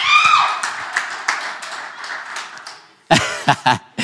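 A crowd claps for a new early childhood director in a thin, scattered burst that fades out over a few seconds, followed by a few louder, separate claps at the end.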